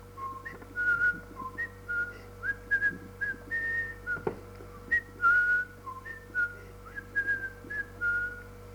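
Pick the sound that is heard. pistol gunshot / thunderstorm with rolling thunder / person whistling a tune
person whistling a tune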